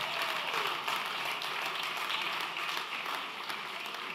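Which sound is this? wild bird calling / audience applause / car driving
audience applause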